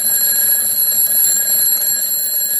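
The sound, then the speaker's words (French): A loud old-fashioned alarm clock rings continuously, a shrill metallic bell clatter with steady high-pitched tones, unbroken for a few seconds with no voices. “Ah, c'est un réveil un peu à l'ancienne.”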